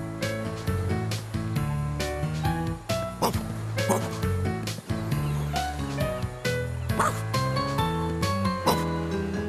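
animal, dog barking and playing

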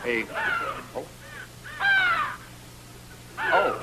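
bird, crows cawing

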